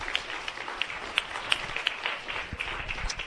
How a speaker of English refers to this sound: Round of applause for our new members.